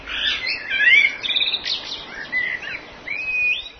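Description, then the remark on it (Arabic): A toucan, a bird with a huge beak up to 19 centimetres long, calls in a steady run of bright chirps and squawky notes, ending in a clear rising whistle. The calls are fairly loud, with no talking. “الطوقان طائر له منقار ضخم يصل طوله إلى 19 سنتيمترا، وهو حجم غير متناسب مع حجم جسمه”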